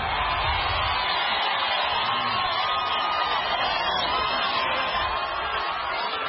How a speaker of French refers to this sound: À chaque gare, une foule enthousiaste attendait le président Kenyatta qui leur a promis la prospérité.